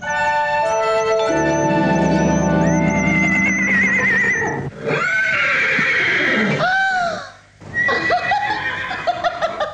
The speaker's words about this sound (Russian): Какие кони! Какие кони!